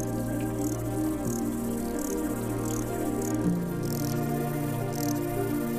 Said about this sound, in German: Im Gras zwischen den Sträuchern zirpen die Grillen um uns herum. Wenn wir sie als Menschen in diesen Monaten schon laut wahrnehmen, wirkt es jetzt wie ein riesiger Chor, der uns aus der ganzen Welt vorsingt.